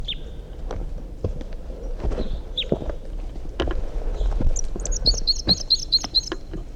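A wild bird sings a brisk phrase of about seven quick, high chirps near the end, after a few scattered calls, over soft rustling and irregular thumps like footsteps.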